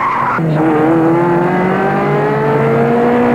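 A car engine roars loudly and steadily, its pitch climbing as it accelerates hard along the périphérique ring road, with a brief high tire squeal at the start. No one speaks.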